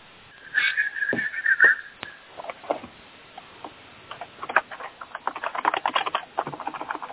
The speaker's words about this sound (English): We can hear you typing.